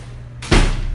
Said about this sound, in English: And so, I want to close the door while you're just standing there anyway.